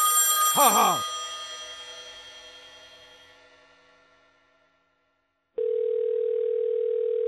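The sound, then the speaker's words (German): A single bright telephone-bell ring decays slowly into silence, then a steady, loud dial tone starts and holds to the end, as a phone call is placed to a children's shop. No voices. “Anruf im Kinderladen.”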